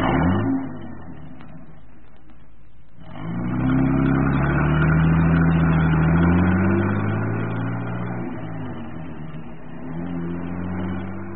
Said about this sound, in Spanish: El auto se deslizó hasta desaparecer en el callejón.